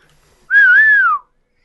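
A single short whistle from a person, a clear tone lasting under a second that rises slightly then glides downward at the end, close and fairly loud with no talking.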